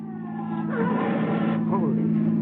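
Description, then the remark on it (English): A stolen car driven by a drunk driver speeds out of control toward a turn, its engine roaring at high speed, the droning hum swelling louder and staying intense throughout, continuous as if the vehicle is racing hard. “He's not going to make that turn up there. His car's out of control.”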